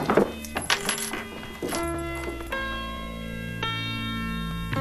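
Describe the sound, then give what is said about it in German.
Keys jingle and clink sharply for about a second and a half, fairly loud, as the key to a hotel room is handed over, then a set of sustained metallic ringing tones hums on underneath. No one speaks. “Bitte, hier ist der Schlüssel.”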